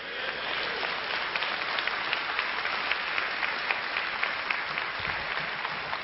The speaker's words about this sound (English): Listen to me, you're clapping, but almost every one of you has a youth ministry in your church that is operating unbiblically. Don't clap if you're not going to change it.